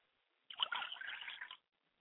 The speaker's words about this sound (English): I pour libations to the east and I say, Ashe. I pour libations to the west and I say, Ashe. I pour libations to the north and I say, Ashe.